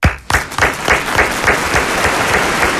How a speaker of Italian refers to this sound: Perché l'applauso all'isola di Procida? Perché parte da Procida il progetto Stop Zanzara Tigre.